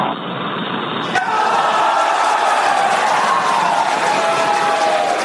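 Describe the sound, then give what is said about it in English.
A crowd cheers and claps loudly and steadily in a mission control room, a dense, continuous roar of many voices that swells after a brief crackly start and holds for several seconds, as Jared Isaacman moves out of the capsule on the first privately funded spacewalk. “You can just about hear him there saying, "Earth sure looks like a perfect world," followed by cheering from the control room.”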